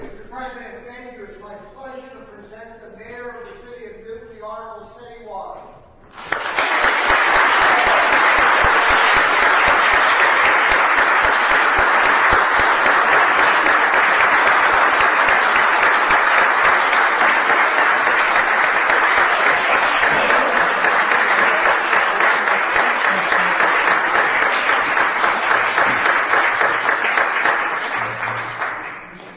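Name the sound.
audience applause and cheering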